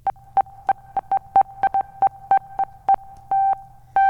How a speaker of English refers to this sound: Oh, we do have synthy synth. We got synthy synthesizers. Beep. We got beeps.